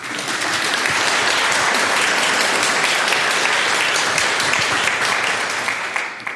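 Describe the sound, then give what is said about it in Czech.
A gathering of people applauding the talented children of the audience together, a steady, dense wash of clapping that holds strong for several seconds before tapering slightly at the end. “Možná vás poprosím, zatleskejme jim.”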